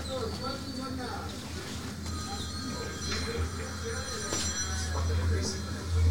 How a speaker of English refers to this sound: You got a phone call coming in? There you go.